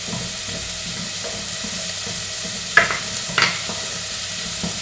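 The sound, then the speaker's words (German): Onions sizzling as they sauté in olive oil in a pot until translucent, a steady crackling hiss with a few sharper scrapes of stirring partway through. Moderately loud, with no talking. “So, ich werde diese Zwiebeln jetzt schön glasig anbraten hier in dem Topf.”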